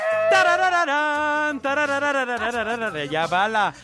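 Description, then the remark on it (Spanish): A voice imitates a sheep or goat bleating in one long, loud call that quavers and wobbles in pitch, breaking into a shaky tremolo toward the end. “Ya bala.”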